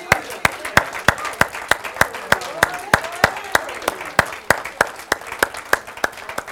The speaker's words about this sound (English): Let us just applaud Jesus one more time, please.